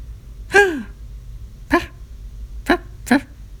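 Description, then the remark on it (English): A female monkey gasps and then makes four short, harmonic calls spaced over a few seconds. The first is a longer cry that slides down in pitch, and the later ones are brief, sharp yelps, with no talking. “She gasped, and then made a few vocalizations.”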